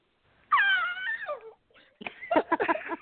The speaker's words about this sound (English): That's the first time in the history of this show that we've had a scream. So I'm not sure what to make of that, but we'll continue.